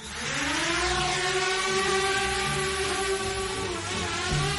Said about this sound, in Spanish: el sonido más temido hoy por los ucranianos es este, el de los drones.